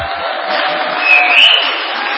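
A large audience applauds steadily and loudly throughout, a dense wash of clapping with a brief whistle-like cheer rising midway, no one speaking over it.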